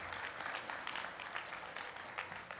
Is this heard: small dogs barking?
no